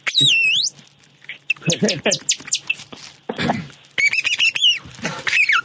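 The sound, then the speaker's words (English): Robin calls imitated with a plastic bag: loud bursts of squeaky, warbling chirps and rising whistles in quick succession, with brief bits of talking mixed in between. “Sounds like a robin.”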